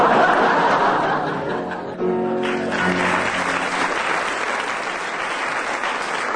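A loud, steady wash of audience applause for a contestant's entry in a scored game fills the whole stretch, with some laughter mixed in. Briefly near the start, a few voices break through with harmonic, laughing tones over the clapping.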